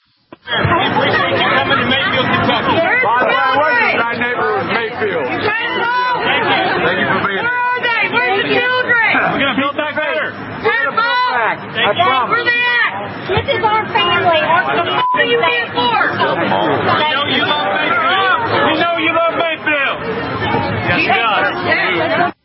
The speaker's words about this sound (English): There's eight of them. Here's one of them where they're chanting he's a pedo. Here it is.